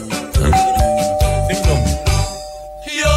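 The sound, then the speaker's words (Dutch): A doorbell-style ding-dong chime rings out over a loud, rhythmic musical backing, with one bright tone held for a couple of seconds before fading. No one speaks. “Ik heb net een mail gekregen. Met als onderwerp... Ding Dong.”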